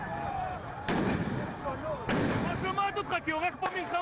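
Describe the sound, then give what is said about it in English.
Two loud, sharp stun grenade blasts, used by police to disperse a crowd of Ethiopian protesters in Tel Aviv, Israel, go off about a second apart amid the noisy crowd, with shouting and voices continuing after each explosion. “Police used stun grenades and water cannons to disperse the angry crowd.”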